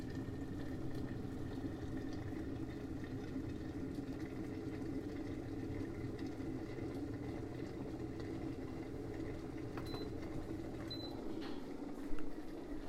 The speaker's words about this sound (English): Now water is boiling.